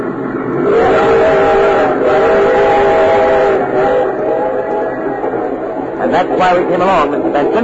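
A train taking the Green Wings team to Centerville rumbles along steadily while a long, sustained, loud whistle sounds over it, fading into rattling carriage noise toward the end.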